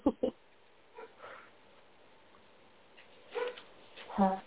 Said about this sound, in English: Here's some puppies in the background. Yeah, I have a Doberman puppy that can get loud.